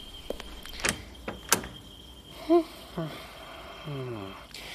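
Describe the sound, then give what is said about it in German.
A door opens, with a couple of sharp clicks from the latch and handle, followed by a few short vocal sounds from a voice. “und geht hinüber zur Tür.”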